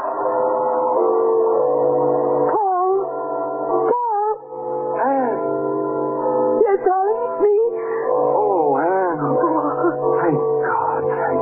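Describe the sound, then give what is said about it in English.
A dog howls loudly in long, wavering cries that rise and fall in pitch, with brief breaks between them and no talking. “You come back. My dog.”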